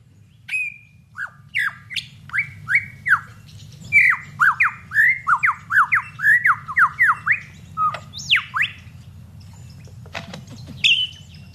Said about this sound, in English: To persuade females to come close and admire his plumes, he sings the most complex song he can manage, and he does that by copying the songs of all the other birds he hears around him, such as the kookaburra. It's a very convincing impersonation.